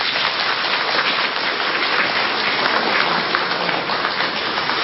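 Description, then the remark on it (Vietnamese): Sustained applause from a large crowd at a morning Buddhist dharma talk for the Vietnamese community in London, a dense, steady patter of many hands clapping at once, loud and continuous for the whole stretch with no voices over it. “Nếu quý vị thấy đó là một nhu cầu mà mỗi người có thể bắt tay vô làm được, làm thành công trong vòng 5 năm thôi, xin dâng cao một tràng pháo tay thật lớn.”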